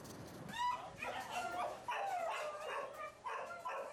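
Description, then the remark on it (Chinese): Several dogs bark and yelp in quick, overlapping bursts, mixed with high whimpers and whines, forming a loud, continuous chorus with no talking. The dogs are in an animal shelter in Taiwan after being abandoned by their owners. “这些狗被主人遗弃，它们已经在收容所数周了，没人想收养它们。”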